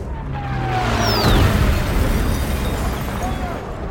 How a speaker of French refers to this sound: Débarquements amphibies chinois sont précédés d'un déluge de feu. Les explosions résonnent violemment, faisant voler en éclats les vitres des bâtiments.